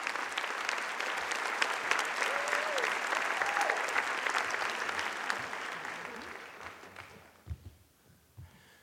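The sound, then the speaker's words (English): Loud, dense applause from a large live hometown audience in Burlington, Vermont, sustained for several seconds before tapering off into a few scattered claps and quieter background noise near the end. “Here he is telling a story to his hometown crowd in Burlington, Vermont.”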